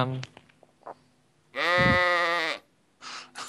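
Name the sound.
sheep bleating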